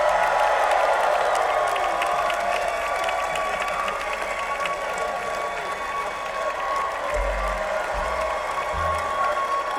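A crowd applauds a band steadily with dense, continuous clapping and scattered cheers and whoops, sustained at an even, loud level for about ten seconds with no one speaking.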